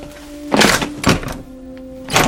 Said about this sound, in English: Later, Malcolm approaches a door beneath the front stairs and tries the bright red glass knob.